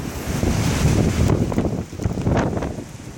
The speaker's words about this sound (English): And we've got lashing rain and howling winds. If you've been out at about 5 o'clock this morning, you would have heard dustbins being blown around as if they weighed absolutely nothing.